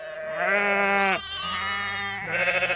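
Tom Milburn's flock of sheep and lambs on his British farm, near the Church of St. Giles Chollerton, bleat in a steady stream of loud, wavering cries while being fed in the morning, one call overlapping the next, with a quavering, pulsing bleat closing the sequence. No one speaks.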